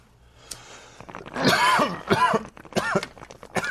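Several harsh, raspy coughs and throaty clearing sounds from old stoners, following in quick succession, fairly loud, with a soft tap at the start and no talking.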